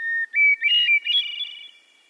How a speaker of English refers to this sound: Many people would tell you that hearing bird song, like the one from this hermit thrush, puts them in a good mood.